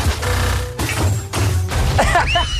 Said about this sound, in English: Listen to the explosions.